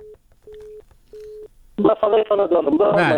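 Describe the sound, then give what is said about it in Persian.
A telephone's disconnected-line tone as a broadcast phone call with the district governor of Qarghan drops: three steady, evenly spaced beeps at moderate volume, then the tone stops and a voice begins talking, louder. “قطعشت بخیرم، یک تلفن قطعشت. بله کل تلفن ها قطعشت”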